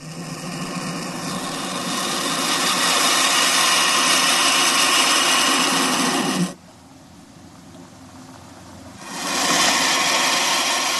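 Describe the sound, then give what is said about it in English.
A turkey vulture under stress, which has no vocal cords, gives a harsh, continuous rasping hiss with a rough, grunting low edge for several seconds, breaks off abruptly into quiet, then returns just as loud. No voices are heard. “It can hiss and grunt when it's threatened. Here's what it sounds like, the vulture under stress.”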